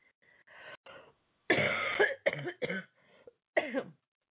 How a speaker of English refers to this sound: I have more quotes, but I'm having some trouble with my voice and my cough.